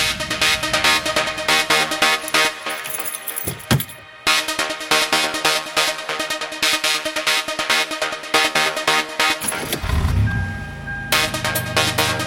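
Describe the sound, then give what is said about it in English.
Loud, dense dubstep music with a steady driving beat and heavy wobbling bass, briefly dropping out near the middle before surging back with a deep bass-heavy section. No one speaks. “Anyway, I'm getting sleepy, but here's Dubstep.”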